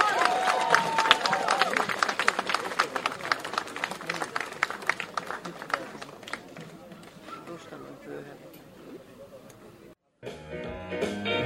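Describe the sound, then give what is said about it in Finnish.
A crowd in Finland applauds a Finnish Elvis impersonator taking the stage: dense, steady clapping with voices mixed in, going on for about ten seconds and tapering slightly before an abrupt cut to a different, busier sound. “Ja nyt, hyvät naiset ja herrat, mennään pienelle aikamatkalle, palataan tuonne 50-luvun tunnelmiin ja toivotetaan valtavien aplodien saattelemana tervetulleeksi tänne eräs Suomen parhaasta Elvis-tulkeesta,”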